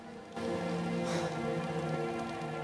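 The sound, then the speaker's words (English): Steady rain falls outside over a crowd with a continuous broad hiss, kicking in abruptly after a brief quiet moment and holding at an even, fairly loud level, with a low tonal drone underneath and no voices. “He looks around in the rain with furious determination.”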